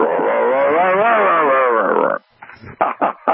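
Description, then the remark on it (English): A person imitates a bull's roar with a loud, sustained, wavering vocal drone lasting about two seconds, then a few short breathy grunts. “Well, there's always smoke signals. And a bull roar.”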